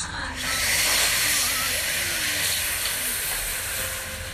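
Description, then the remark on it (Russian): A long, steady hiss of air drawn in through the mouth and clenched teeth during a breathing practice, with the nose not used, fairly loud, holding for about four seconds before easing slightly at the end. “Дышим через ротик, губки увлажняем, и через зубки, через промежность мы вбираем в себя энергию огня.”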